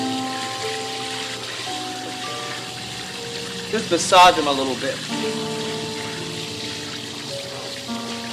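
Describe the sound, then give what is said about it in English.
Cool water runs and splashes steadily over a policeman's tired feet on a hot day, a hissing pour, while a voice speaks briefly over it and a sharper splash or slosh stands out near the middle. “Cool water on a hot day.”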